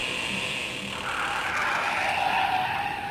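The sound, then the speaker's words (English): A taxi's tires squeal in a long, sustained skid as it pulls up, the screech rising and bending in pitch over a steady engine and road noise, with no talking. “Taxi!”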